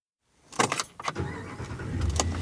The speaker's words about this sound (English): Okay, so here we are in a very large truck, probably unnecessary that I rented this big of a pickup truck, but here we are driving into Yellowstone, and there's no one here.